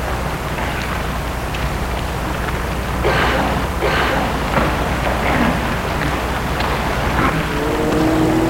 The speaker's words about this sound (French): Tout à coup, une voiture va vers elle, une voiture noire.